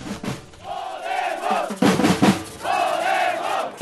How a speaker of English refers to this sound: tens of thousands of demonstrators are rallying in support of the country's new left-wing anti-austerity party